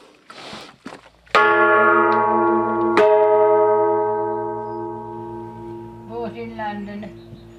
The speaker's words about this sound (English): Ruth Chambers has a gong next to the back door she can use to call her grandson